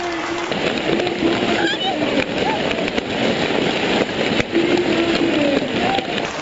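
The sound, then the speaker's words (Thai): Dense, nonstop crackling and popping as more than 366 schoolchildren stomp for two minutes on over 743 square metres of bubble wrap in a school gym, a loud rapid snapping barrage with children's excited voices shouting and squealing throughout. “งานนี้มีนักเรียนเข้าร่วมกว่า366คนซึ่งเป็นจำนวนมากที่สุดนะครับเด็กเหล่านี้ร่วมกันกระทืบบับเบิ้ลแรปขนาดใหญ่กว่า743ตารางเมตรเป็นเวลา2นาทีในโรงยิมของโรงเรียนนะครับมาฟังดูเสียงกันครับว่าจะอึ้งคนึงขนาดไหน”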